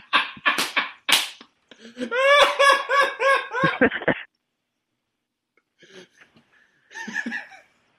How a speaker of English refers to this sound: do you hear that? There are peacocks in this cemetery screaming at me.